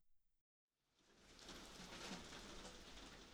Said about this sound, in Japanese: 今は小雨だけど、夕立だからすぐ激しくなると思うよ。